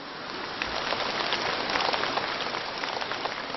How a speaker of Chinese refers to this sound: 鼓掌鼓得很热烈，好像你们都很开悟一样。